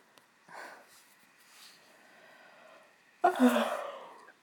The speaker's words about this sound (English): I'm sorry. It's 1 a.m. And I am yawning because it's late.